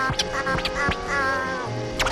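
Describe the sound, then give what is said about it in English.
A bird calls out with several harsh, nasal, quacking cries in quick succession, loud, with no talking over them. “A bird? Yeah.”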